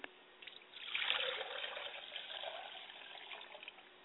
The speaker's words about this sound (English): I pour a glass of water for my mother's spirit and I say Ashe.